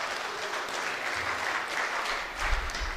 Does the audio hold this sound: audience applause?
yes